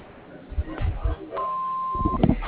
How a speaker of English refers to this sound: If you'd like to leave a message, you can do that when you hear the beep.